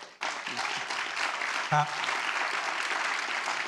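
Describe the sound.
An audience at an MSU homecoming event bursts into sustained applause in favor of independent public media, dense clapping continuing steadily for several seconds, with a brief voice or cheer rising out of the noise partway through.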